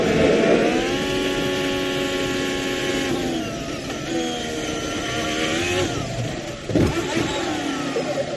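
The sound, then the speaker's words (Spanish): A racing car's engine screams at high revs, pitch shifting as it brakes and accelerates, then a sudden loud impact thud as the car crashes at the Ascari corner during practice before a sprint race, before the engine noise resumes. “Pero así ha sido el momento en el que ha estrellado su coche en la curva Ascari.”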